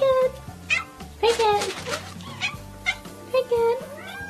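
A cat makes several short, clipped "ack" calls instead of a full meow, close and fairly loud, spaced irregularly over a low steady background hum.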